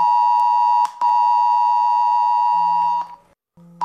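A loud, steady emergency test alert tone from a mobile phone on Germany's nationwide Warning Day at 11 a.m., triggered by the Federal Office of Civil Protection and Disaster Assistance: a piercing harmonic-rich beep sustained for about three seconds with brief breaks, ending in a lower buzzing tone. No one speaks.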